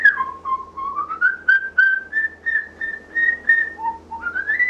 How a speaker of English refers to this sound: That bird's just not whistling Dixie, is he? No, he's not. Starlings really love to whistle. That's one of their natural vocalizations in the wild, is to have a series of whistles followed by the kind of mimicries that we've been talking about,